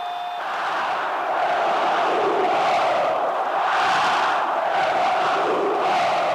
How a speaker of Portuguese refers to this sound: O Maracanã veio abaixo. Mais de 95 mil rubro-negros faziam um barulho que podia ser ouvido em Porto Alegre.